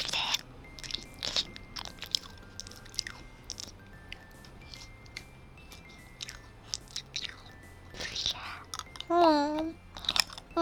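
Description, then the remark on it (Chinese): Crisp crunching as someone bites into a candied hawthorn skewer bought from a vendor, with a steady run of sharp crackly bites and chewing, and a brief murmured voice near the end. “老板，你这冰糖葫芦怎么卖的？来一个。”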